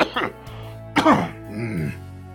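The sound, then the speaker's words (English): A person holds up a handkerchief and mimics a fit of coughing: two harsh, breathy bursts about a second apart, trailing into a short voiced, groaning sound. “And then he kind of like holds up a handkerchief and just sort of like starts coughing.”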